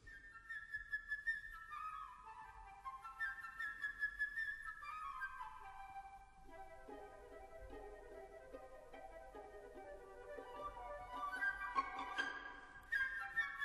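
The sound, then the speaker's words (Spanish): A bright flute flutters in quick, high trills and descending runs, depicting a little bird fluttering calmly on a branch, over a soft orchestral backdrop that swells toward the end. No one speaks. “Y esto es lo que está sonando por debajo del revolotear del pájaro que está haciendo la flauta.”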